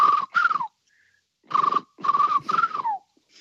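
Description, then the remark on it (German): A person whistles while rolling the sound, imitating the trumpeting call of cranes: two short trumpeting bursts, a pause, then three more in quick succession, each ending in a downward slide. Fairly loud. “Klingt so ein bisschen wie so ein Stoß in die Trompete, ne?”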